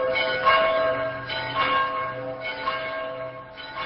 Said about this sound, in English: Across Poland, church bells are tolling as thousands of the faithful hold vigils for John Paul, the Polish-born priest who came to lead the billion-member Catholic Church.